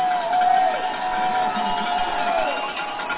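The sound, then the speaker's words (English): A dense, continuous roar of the Vikings football crowd on its feet cheering before a third-down play, loud and steady for the whole stretch, with shrill whistles and high voices rising above the wash of noise. “Crowd, Viking crowd has come to their feet.”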